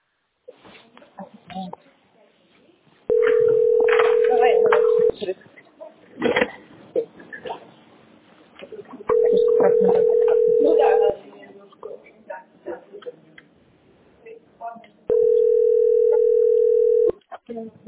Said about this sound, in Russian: Мой телефон звонит, потому что нам принесли деньги, нет, которым мы не можем отправить.